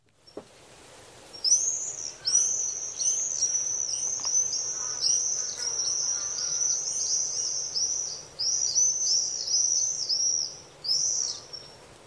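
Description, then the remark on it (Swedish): Common swifts scream in shrill, high-pitched trilling bursts, several overlapping into a nearly continuous piercing chorus with brief gaps, set over a faint low background hum and no talk. “Och Joakim kallade tornseglarnas skri för sommarens signatur.”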